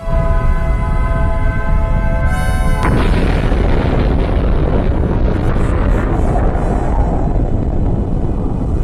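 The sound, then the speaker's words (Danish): A steady, droning tonal hum gives way after about three seconds to a sudden massive atomic bomb explosion, the Hiroshima bombing, Japan, at 8:15 local time in August 1945, which swells into a loud, deep, continuous rumbling roar that lasts until the end. “Et brag af en anden verden.”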